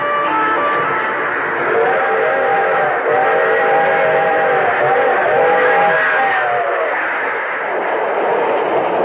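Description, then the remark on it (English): A string of freight cars rumbles steadily past across a dusty stretch of farmland, a dense continuous roar with a long, wavering whistle sounding through the middle stretch. “A string of freight cars crossing a dusty stretch of lonely farmland.”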